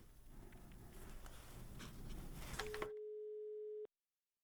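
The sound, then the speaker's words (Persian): Crackly, hissing phone-line noise gives way to a single steady telephone tone, a low electronic hum that holds for just over a second before cutting off abruptly into silence, as a phone call into a radio programme drops. “بله مولوی صاحب، تلفن تان بخیلم قطع شد، مشکل.”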